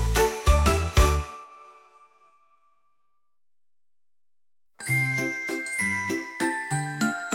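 A quick cluster of bright, ringing bell tones fades into a few seconds of silence, then a busy run of jingling, chiming notes resumes at a steady, lively pace.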